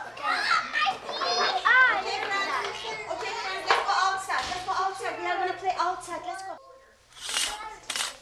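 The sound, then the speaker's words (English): Several toddlers play and chatter at 7 p.m. bedtime, fighting sleep, high excited voices overlapping in a lively, continuous stream, with a brief lull before a burst of squealing near the end. “It's 7 p.m., that hour for toddlers when they fight sleep and want to keep going.”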